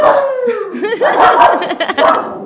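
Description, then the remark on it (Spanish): A person imitates a dog, starting with a long falling howl and breaking into a quick run of wavering yips and barks lasting a couple of seconds. “¡Ladra, ladra!”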